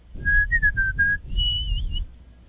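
A clear whistled melody glides through a few sustained, wavering notes, then jumps to a higher held phrase, set over a low instrumental backing as if from an old song recording.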